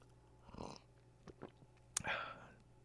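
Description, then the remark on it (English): Quiet slurping sips of hot coffee, with a soft airy pull, a few small clicks, and a final longer, wetter slurp near the end; no one talks. “Just sipping on some coffee.”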